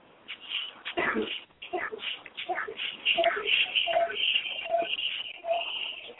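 A dog whimpers in a series of short, high-pitched whines that repeat steadily over several seconds, with shuffling and rustling noise underneath.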